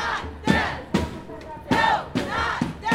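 A crowd of about 300 chants in unison at a rainy protest march and rally to Richmond Police Headquarters demanding police reforms: loud rhythmic shouted bursts repeating roughly every half second to second, with many voices blending into a steady, insistent cadence.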